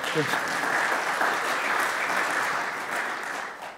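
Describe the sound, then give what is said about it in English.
An audience at a morning church service claps steadily, a dense, even wash of many hands that holds at the same loudness for nearly four seconds, with a brief voice faintly audible at the start. “Yeah, yeah, you can clap again. I like it when we clap.”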